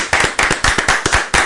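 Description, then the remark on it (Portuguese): Hands clap in applause for the CDL (Clube de Diretores Lojistas) of Lagoa Vermelha, a quick, steady rhythm of about seven sharp, fairly loud claps in a second and a half, with no voices over them. “E os nossos aplausos para a CDL, né, nesse dia.”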